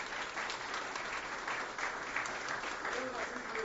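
A crowd at a legislative chamber session claps steadily for several seconds in praise of the Lord Jesus, a dense, continuous patter of many hands at an even loudness with no clear pauses.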